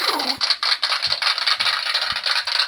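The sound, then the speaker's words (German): Recorded applause from a sound machine plays on, a dense, steady crackle of many hands clapping at a fairly loud, even level throughout, with no voices. “Genug geklatscht. Es hört nicht auf, jetzt hört's auf.”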